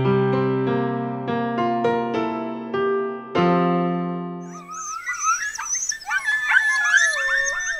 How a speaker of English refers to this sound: That howling chorus you're hearing there is a pack of red wolves, and sadly, it's a sound you soon may not be able to hear in America ever again. There are only 45 to 60 red wolves left in the wild in the United States.